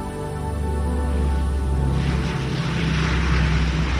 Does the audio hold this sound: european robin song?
no